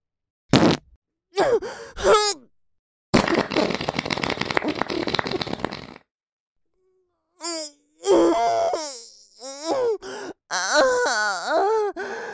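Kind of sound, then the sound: human body sound, fart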